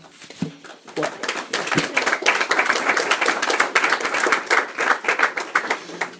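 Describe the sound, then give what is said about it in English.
Brisk, theatrical clapping runs steadily for about six seconds, a dense rapid patter of sharp hand claps at a fairly loud, even level, with a brief murmur of voice near the start. “giving me a very good theatrical clap there.”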